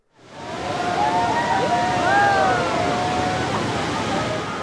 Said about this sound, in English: People oohing and aahing there. By the millions, they go to see the spectacular view each year and to get up close on tours by boat.